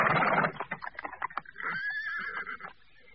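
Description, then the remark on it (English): Horses standing with stationary coaches in a yard at midnight paw and stamp on frosty cobbles, a quick run of sharp hoof knocks after a rough scraping burst, followed by a drawn-out whinny. “The doors remained closed, the coaches stood still, and the horses pawed at the frosty cobbles.”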